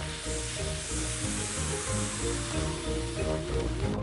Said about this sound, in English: Daddy Pig is making paper boats for everyone. Let's have a race. Good idea, Mummy Pig. We can huff and puff and blow the paper boats across. Everyone take a deep breath. Ready, steady, blow!